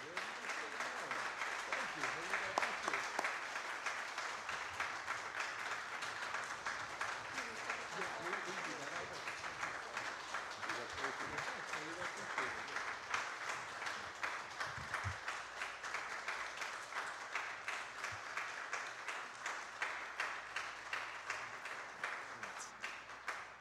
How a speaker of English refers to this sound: I was not expecting that, and usually you applaud after the sermon,